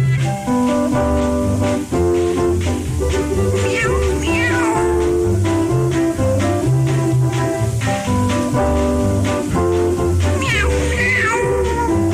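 Cats meow repeatedly over a steady, loud background of music, with a couple of sliding, drawn-out cries standing out near the middle and end.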